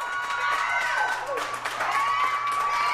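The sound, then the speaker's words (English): A small crowd at Hair Works Salon in Denver's Five Points neighborhood cheering loudly during Barack Obama's historic speech, with excited whoops, high shouting voices and bursts of clapping overlapping continuously for the whole few seconds. “in much smaller venues across the country they were cheering, too. Here's Hair Works Salon in Denver's Five Points neighborhood.”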